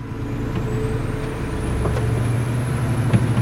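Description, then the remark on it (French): A heavy truck engine rumbles steadily, heard while riding in the truck, with a faint high whine overhead and a few short hissing bursts from air brakes. “Vous étiez déjà monté dans un camion ?”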